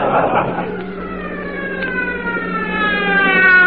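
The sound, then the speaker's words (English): A police motorcycle siren wails with a steadily rising pitch, growing louder over a few seconds as a uniformed officer on a motorcycle follows a car to pull it over. “Don't look now, but there's a man in a uniform riding a motorcycle, and he's following us.”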